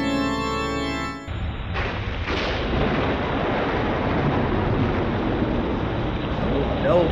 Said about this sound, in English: No, not in this storm. The wind and rain would snuff out the light.